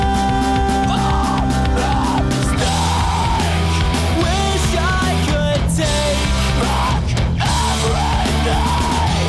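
A loud, dense emo rock song with screamed, yelling vocals over distorted guitars and heavy drums, playing continuously at full volume with no spoken talk.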